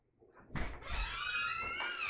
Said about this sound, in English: Front door open, by the way